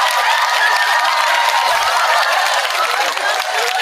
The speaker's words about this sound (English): Round of applause for you, man.